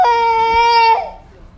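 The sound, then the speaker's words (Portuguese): A baby lets out a single loud, sustained wail, steady and high-pitched, lasting about a second before breaking off, with faint background noise afterward. “Às vezes o neném chora, gente.”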